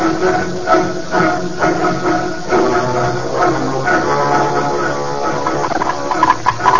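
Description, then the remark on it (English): A steam locomotive hisses steadily at a busy railway platform, a loud continuous wash of steam with a low mechanical rumble and faint clatter, no voices. “Well, first I'm going down to the railway station and have the telegraph operator get in touch with Montreal”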